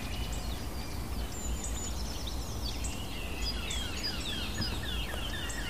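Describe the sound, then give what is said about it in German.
Bright, fluting song notes of a Eurasian blackcap ring out in quick, varied phrases, set against a steady low outdoor rumble, with no voices present. “Hellen Töne der Mönchsgrasmücke.”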